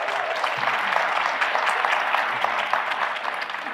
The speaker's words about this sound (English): Well, before we get into No Man's Land and Waiting for Godot, we wanted to find out how many people in the room have seen the productions already. Raise your hands. Clap. Well, a lot of you have.